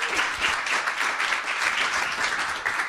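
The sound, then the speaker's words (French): An audience applauds steadily to welcome a guest, a dense wash of many hands clapping at once, loud and continuous throughout with no talking over it. “applaudissements.”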